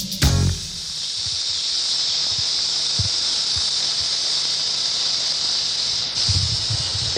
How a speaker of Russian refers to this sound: Ромбический гремучник, самая опасная змея в США, по Флориде же.